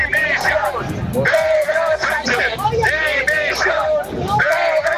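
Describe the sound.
A crowd shouts outside the Plaza de Castilla courts in Madrid as Begoña Gómez goes to testify before a judge, the shouts aimed at her husband. Many voices yell and chant in loud, overlapping bursts with rising and falling pitch, a steady roar of agitated voices throughout.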